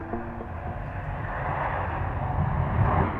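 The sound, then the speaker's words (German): Steady ambience at Munich Airport filled by the broad roar of an aircraft engine, swelling gradually louder toward the end, with a faint low hum at the start and no voices. “Ortstermin am Flughafen München.”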